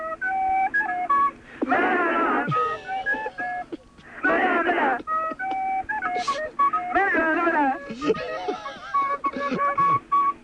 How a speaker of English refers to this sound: We're going to play the recorder. Okay, go for your life. Here goes.